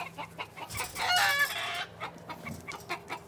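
Several chickens cluck close by in a steady, busy chatter, with one louder, drawn-out squawk rising briefly in the middle before the short clucks resume.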